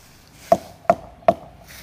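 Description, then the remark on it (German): Three evenly spaced knocks on a damaged tree trunk to test by ear whether the damage reaches inside, each a sharp, solid woody thud with a short resonant ring, struck about once every 0.4 seconds with no talking. “Das Interessante ist halt, dass ich etwas, was ich nicht durch das Auge feststellen kann, durch das Hören erfahre, eben hier durch Klopfgeräusche.”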